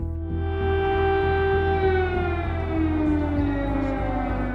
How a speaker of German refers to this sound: Sirenen in Kiew. Der Krieg hat begonnen.